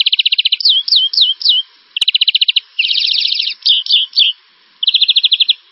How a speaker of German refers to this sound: Und dann so etwa 10 Minuten vor Sonnenaufgang kommt dann so ziemlich der Rest dazu. Das sind dann Star. Oder Grünfink, Arten, die relativ spät anfangen zu singen.